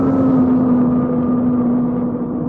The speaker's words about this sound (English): Plane's coming to a halt.